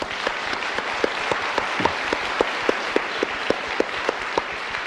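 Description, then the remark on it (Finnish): A crowd applauds first-time attendees steadily for several seconds, a dense wash of many hands clapping with a few sharper, louder claps standing out in a loose rhythm. “Nyt kyllä ensikertalaiset voitti. Annetaan heille vielä aplodit.”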